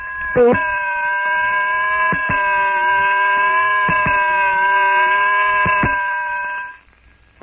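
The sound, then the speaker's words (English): A single weird, unearthly jungle shriek rings out loud, a long sustained wail held for about six seconds, with a few sharp clicks cutting through before it fades away. “Tarzan weird, unearthly shriek. Hold your breath.”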